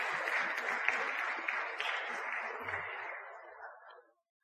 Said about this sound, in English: Let's just give those who have been reading a round of applause.